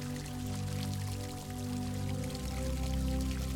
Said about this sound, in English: to the fountain and watching the pure, clear water flowing into a shallow pool. The sun is gentle and warm and sparkles in the droplets of water as they splash into the pool.